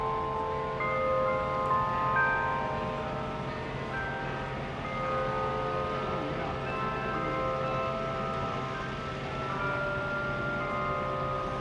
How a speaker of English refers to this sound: continue for several more hours until nearby church bells chimed 5 o'clock, including one that played Amazing Grace